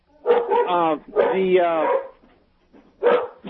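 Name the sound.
dog barking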